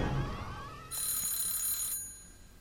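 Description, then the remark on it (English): An alarm clock rings in a single loud, bright metallic burst lasting about a second, following a short low sliding tone. No one speaks. “But face 13. Alarm clock.”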